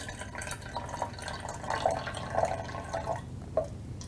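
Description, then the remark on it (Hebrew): Coloured water trickles steadily into a measuring cup to measure a volume of 100 millilitres, with small bright gurgles and plops every half second or so, then the flow stops and a single last drip falls. “בואו נמדוד למשל עכשיו נפח של 100 מיליליטר בכוס המדידה.”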